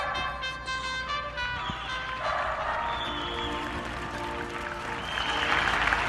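Neighbours in Spain applaud from their balconies for health workers: sustained applause from many people clapping at once, a dense, steady wash of claps that swells slightly toward the end, with faint tonal sounds like whistles or music in the first seconds.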